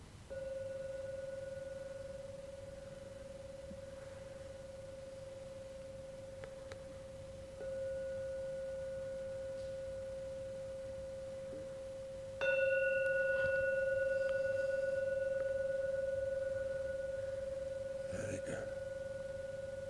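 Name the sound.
gong struck three times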